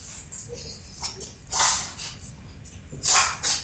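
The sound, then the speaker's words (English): French bulldog puppies sniff and snort, with noisy breaths throughout and two louder, longer huffing bursts standing out against a low background rumble; the puppies are kept indoors during a storm. “I know you hear that Frenchie breathing and everything else.”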